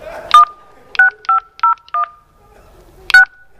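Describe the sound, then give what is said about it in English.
Telephone keypad tones entering a purification code at an automated phone line's prompt: five short dual-pitched beeps in an uneven run, then a pause before one final beep. The tones are clear and steady, with no voices. “Please enter a valid purification code now, followed by the hash key.”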